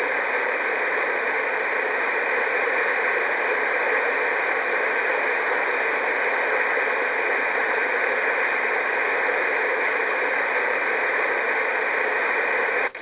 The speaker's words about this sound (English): They also have on this program, they have ambient sounds, which I do use. I like the piano sounds. I like the ocean. You probably do too. This is a waterfall.